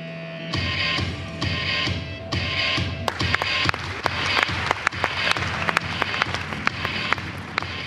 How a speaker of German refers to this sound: Der Applaus vom Publikum in der GSRE-Halle gilt 5 Schweizer Designerinnen und Designer, die heute Morgen ihre neuesten Kollektionen gezeigt haben.